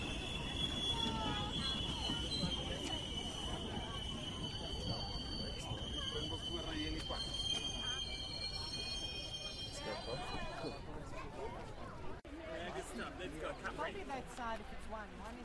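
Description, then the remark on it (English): A metro train runs with a steady, loud rumble on the rails, its wheels letting out a high, sustained squeal for the first several seconds before the noise settles into a rougher clatter. “That's the metro train.”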